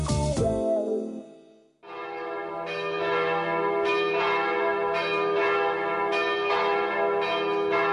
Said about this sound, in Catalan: Sonen campanes.